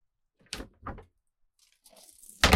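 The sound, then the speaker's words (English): A truck's passenger door clunks open with a couple of solid thumps, followed by soft rustling as a woman hops in, then a loud slam as the door shuts. “escorted her over to the passenger side of his truck, opened the door like a gentleman, and helped her hop inside.”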